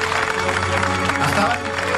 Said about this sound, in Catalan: Un aplaudiment per ell, sisplau.